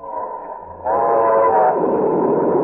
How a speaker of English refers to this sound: Shakespearean troupe have left Pinky Tomlin's Oklahoma Ranch, and we join them now aboard the train en route to Hollywood.